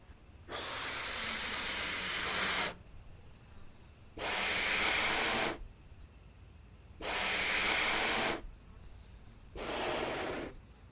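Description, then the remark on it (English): Four long, breathy puffs of air blown into a balloon, each lasting about two seconds with short pauses between, a steady airy hiss that grows louder with each breath. “See, you blow into it like this.”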